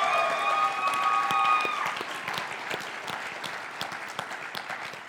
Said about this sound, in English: And I'm going to have you clap one more time because no one really clapped for Pastor Melanie because she put in so much extra.